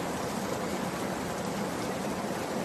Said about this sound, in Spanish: Así caía, por ejemplo, la lluvia en el puerto de Cotos.